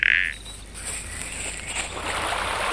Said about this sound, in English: Grandad, what's this? It's a frog.